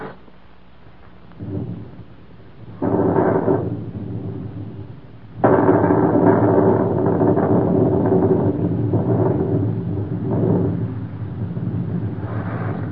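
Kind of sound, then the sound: nature, thunderstorm with thunder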